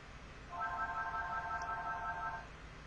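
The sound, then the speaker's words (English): A phone rings with a single sustained electronic tone, bright and steady for about two seconds before cutting off, heard alone over a faint background hum. “Oh, you should probably answer your phone.”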